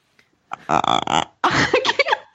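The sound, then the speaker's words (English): A person imitates a raven with two harsh, guttural croaks, the first a rough, buzzing rasp and the second longer and more wavering. The croaks are loud and follow a brief silence. “Do you want to approximate it right now?”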